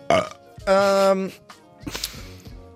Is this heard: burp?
yes